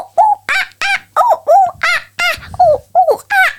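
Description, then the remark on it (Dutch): A person imitates monkey calls, giving a quick run of about ten sharp, rising hoots and squeals in an even rhythm, loud. “Hoe doet een aap dan?”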